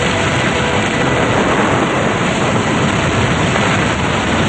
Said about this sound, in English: and the group looks out at the fierce storm and choppy sea.